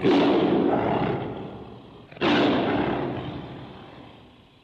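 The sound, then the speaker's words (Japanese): Two loud, rumbling tiger roars, one right after the other, each bursting in with full force and fading away into a long echoing tail. No voices are heard. “困った時は 虎に聞け。”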